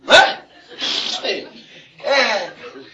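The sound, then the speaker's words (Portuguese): A single sharp sneeze bursts out at the start, followed by breathy, chuckling sounds and a brief spoken word. “Saúde, ude, sem ar.”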